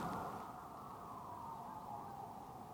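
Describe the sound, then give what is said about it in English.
A police siren wails steadily outside in the northern part of Seoul, South Korea, a sustained mid-pitched tone holding for the whole stretch at moderate volume with no voices over it. “I got to wait for the siren. I cannot talk over a siren. Just catch your criminal.”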